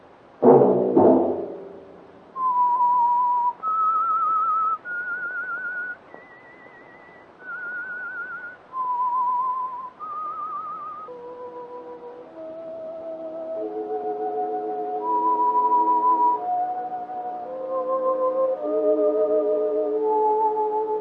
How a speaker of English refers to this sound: That whistle be your signal for the Signal Oil program, The Whistler, each Wednesday night at this same time.